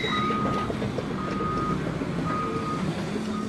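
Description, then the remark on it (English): A construction vehicle's reversing alarm beeps in slow, evenly spaced tones over a steady rumble of heavy engine noise as construction crews tear up a parking lot near the Merced River in Yosemite National Park, with no one talking. “Traffic in the park is especially bad today because construction crews are tearing up a parking lot.”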